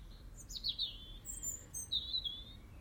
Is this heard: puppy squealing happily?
no